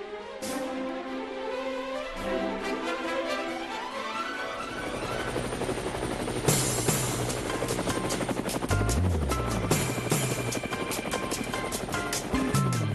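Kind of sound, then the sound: vehicle, helicopter rotor blades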